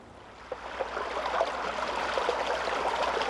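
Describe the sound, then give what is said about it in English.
Water from melting snow trickles and burbles steadily into a small stream, a continuous babble with small splashes and no voices. “Toward the end of winter, when the icicles start to drip and the cold wintry snow melts into rivers, maple trees start to make sugar.”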